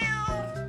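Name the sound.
cat meowing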